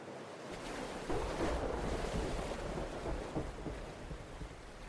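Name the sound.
ocean waves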